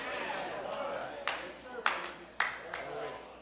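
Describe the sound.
A group claps hands in unison during a church worship service, four sharp claps about half a second apart, heard over a steady murmur of voices and room noise.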